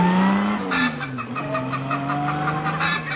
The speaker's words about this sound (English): The combined sound of an automobile and a hen was especially recorded for motoring enthusiasts who keep chickens.